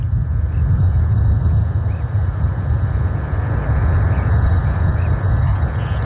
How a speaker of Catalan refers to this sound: Engine start and lift off. A module named Science takes flight to the International Space Station.